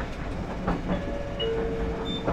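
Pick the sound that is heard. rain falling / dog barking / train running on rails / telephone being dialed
train running on rails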